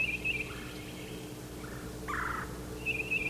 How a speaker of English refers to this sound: Another bird down at the crossing initiated this exchange. And they're calling back and forth.